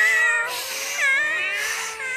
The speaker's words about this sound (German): Die Katzen im Publikum raunten und maunzten